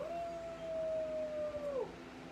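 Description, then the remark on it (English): A single long, sustained howl from a human voice imitating a Sasquatch yell, holding a steady mid pitch for nearly two seconds before sliding down at the end, with a faint background hum. “let's give him a Sasquatch yell.”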